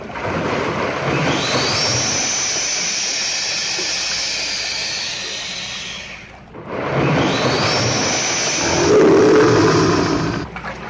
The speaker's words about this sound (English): The roar of these vicious-looking reptiles is a terrifying one. First, you will hear a loud hiss as our alligator friend becomes annoyed, and then maybe he'll roar. Let's listen.